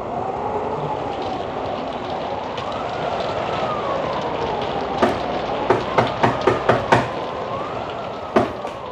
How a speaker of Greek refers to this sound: Πολύ άσχημη νύχτα. Ο Θεός να σε βοηθήσει που βρίσκεσαι έξω με τέτοια βροχή.